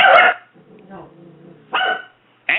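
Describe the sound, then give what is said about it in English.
A dog barks sharply and loudly, then growls low and rumbling before letting out two more harsh, aggressive barks, the last one cut short. “Angry Dog.”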